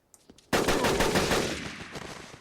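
video game gunfire

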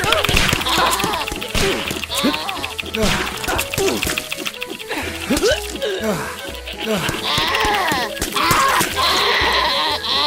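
goat bleating

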